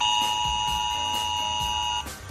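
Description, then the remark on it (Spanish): A Spanish Civil Protection (Protección Civil) emergency alert on a mobile phone, as sent during the DANA floods in Valencia, blares as a loud, steady, piercing tone with bright overtones, holding unbroken for about two seconds before cutting off, with a low pulsing rumble beneath it. “Es el sonido de la alerta de Protección Civil en el móvil.”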